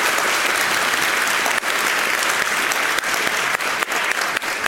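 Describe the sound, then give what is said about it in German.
Steady, dense applause from an audience for Trash, a team that takes care of waste, a continuous wash of many hands clapping at even loudness for several seconds, with no voices on top. “Dementsprechend einmal Applaus für Trash, was nicht hier sein kann.”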